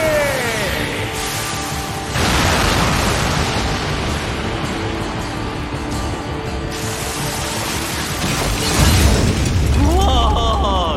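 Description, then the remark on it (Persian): Loud, rumbling mortar explosion blasts fill the scene, one surging in around two seconds and roaring on with a dense, crackling wash. A bigger boom swells near the end, with shouting voices mixed in. “انفجار خمپاره‌ای.”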